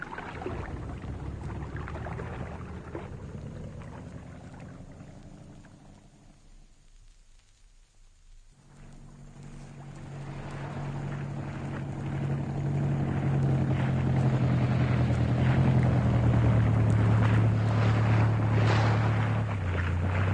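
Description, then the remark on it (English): A small boat's motor drones across open water, its pitch shifting and briefly dropping away before returning as a steady hum over wind and splashing wash. “Yeah, just stay where you are, sir, and I'll pull the boat in.”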